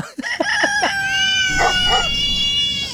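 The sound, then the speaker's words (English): A few quick barks open, then a long, loud rooster crow rings out, with a cat-like wavering cry blending in, all three animal sounds piled together in one busy burst. “Oh, we did a big finish, which was dog and a rooster and a cat.”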